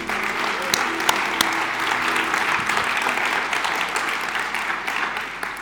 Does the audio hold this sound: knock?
no